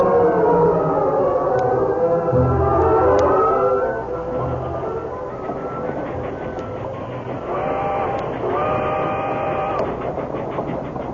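A train whistle sounds in long, wavering blasts over the steady rumble and clatter of a moving train on its way to Richland, loud, with a second whistle call rising near the end.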